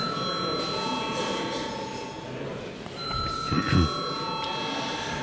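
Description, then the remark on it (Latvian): A parliament voting bell rings steadily for several seconds before a vote on a bill, a sustained bright, metallic tone over a low murmur of background noise, with a brief muffled voice-like sound near the end. “Lūdzu, zvanu.”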